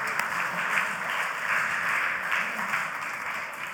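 Steady applause from an audience fills the whole stretch, a dense crackle of many hands clapping together at a fairly even, moderate loudness without any voices on top.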